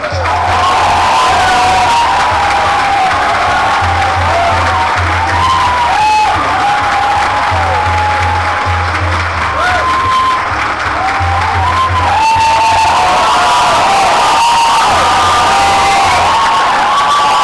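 A big crowd at a Taipei regional seminar claps loudly and steadily for the whole stretch to welcome an executive vice president, with cheers and rising whoops scattered throughout and a low rhythmic thump pulsing underneath.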